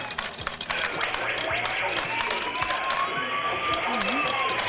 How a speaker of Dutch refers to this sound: Hier gaan de muntjes, oké. Okay. Alweer een winnaar.